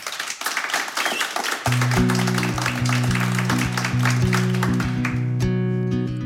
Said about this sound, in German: Nochmal ein großer Applaus